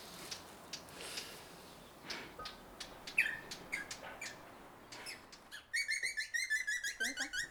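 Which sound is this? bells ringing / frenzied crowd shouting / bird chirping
bird chirping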